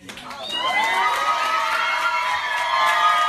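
A crowd at Vi Lyles' campaign headquarters on Tuesday night bursts into loud cheering as she is declared the winner in the Democratic primary for mayor, with high shouts and whoops layered over a steady roar that builds quickly and stays strong throughout.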